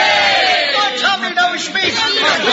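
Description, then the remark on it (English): A crowd shouts a loud, sustained "hip, hip, hooray" cheer for Tommy Malone together, many overlapping voices rising and wavering in pitch for a couple of seconds before tapering off. “A cheer for Tommy Malone! Hip, hip! Hooray!”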